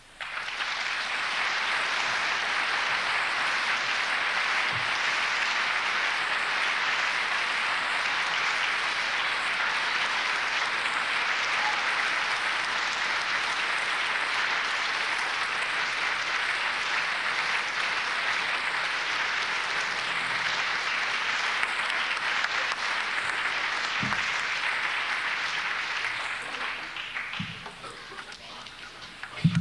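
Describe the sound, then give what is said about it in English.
An audience applauds in a long, steady wash of clapping that holds at an even level for nearly half a minute before thinning out at the end. No voices are heard. “we thought we'd give you something to clap about this morning.”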